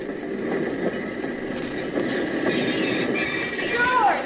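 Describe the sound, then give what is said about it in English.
A work train arriving back in La Paz rumbles steadily along the rails, a dense continuous rolling noise, with a brief metallic wheel squeal rising near the end. “it's a mighty pleasant feeling when you step out of the bullet-riddled plane on solid ground, and when, a couple of days later, you jump off the work train back in La Paz.”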